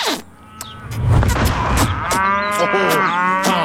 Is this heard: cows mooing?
yes